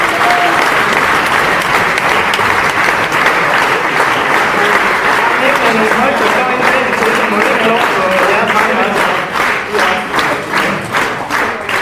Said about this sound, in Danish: Kan I ikke lige klappe en ekstra gang?